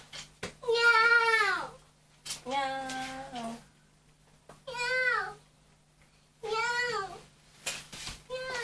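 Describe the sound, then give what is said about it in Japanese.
A child repeatedly imitates a cat's meow, four drawn-out, rising-and-falling mews separated by short pauses, fairly loud. “猫ちゃんになってたの？今度は。”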